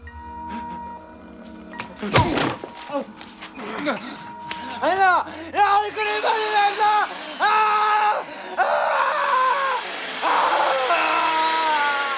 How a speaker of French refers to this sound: Ça fait plaisir à cause du bruit de la. De la scie circulaire.